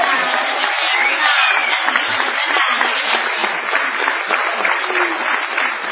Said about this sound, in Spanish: Memorable ha de ser la ovación tributada al artista antes llamado ….